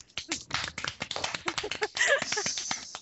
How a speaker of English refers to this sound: Pats on the back and claps all around. Yay. Yay! I'm like, I'm the only one clapping. No, it's not happening in my hand.